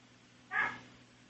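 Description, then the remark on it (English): A single short dog bark, moderately loud, over a steady low background hum, with no other sounds around it; the dog is barking at a raccoon at the door waiting to be fed. “My dog is barking at the raccoon that's at the door waiting to be fed.”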